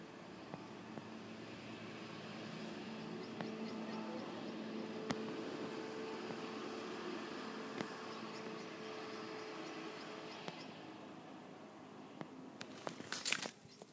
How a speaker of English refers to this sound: Is that them again? Road sweepers? Or is that a car? No, it's a car.